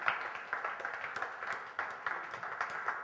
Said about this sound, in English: But how many can agree Jesus Christ does fix that? Can you give Jesus a hand clap of praise because He fixes that?